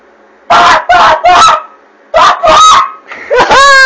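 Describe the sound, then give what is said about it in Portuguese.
Voices imitate chickens clucking in a loud, rapid series of squawky bursts, a few quick clucks, a pause, then more ending in a drawn-out cackle, with no other talk. “Como é duas galinhas fazendo café?”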